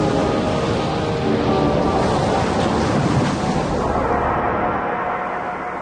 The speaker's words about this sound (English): Look at the waves, Mina. And the spray.